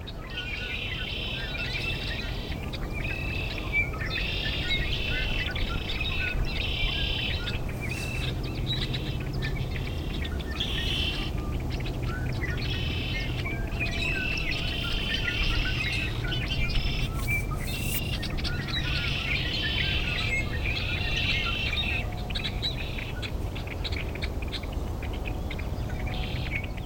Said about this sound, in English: This has been WSHE's Bird Song Break, featuring the red-winged blackbird. Special thanks to the Cornell Lab of Ornithology.